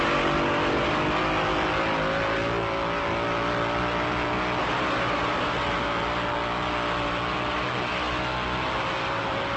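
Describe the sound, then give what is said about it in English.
Loud, continuous engine roar of race cars on a banked track, hitting about 160 miles an hour coming off the banks, with layered high-revving motors blending into a dense, steady drone for the whole stretch, no voices. “When you're watching from the stands, it's hard to believe that coming off the banks, they're hitting 160 miles an hour.”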